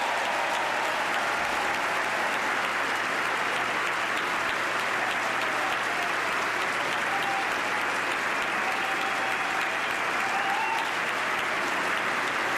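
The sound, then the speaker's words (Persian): Sustained applause from the audience, US lawmakers and President Obama's administration ministers gathered in Congress for the president's annual address, a dense, steady wash of clapping that holds at an even level throughout, with no speech over it. “شما صدای کف زدن های حضار و قانونگذاران ایالات متحده آمریکا و وزرای اداره رئیس جمهور اوباما را میشنوید که در کانگرس همگی جمع شدند و امسال میزبان و یا حضور یافتند تا که سخنرانی سالانه رئیس جمهور آمریکا را بشنوند.”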